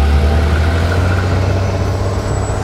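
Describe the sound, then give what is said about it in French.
A sedan pulls away from the curb as the driver floors the accelerator, its engine giving a loud, deep, steady rumble and a constant low drone throughout, with no voices present. “Bono écrase la pédale d'accélérateur. La berline décolle du trottoir.”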